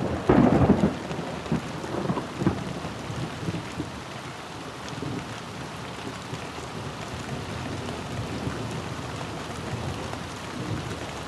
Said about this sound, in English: Even this quick storm overwhelms the town's damaged drainage system. And before long, the streets are streaming with water. It's hard to imagine a big resort here when the terracotta drain pipes can barely handle a spring thunderstorm.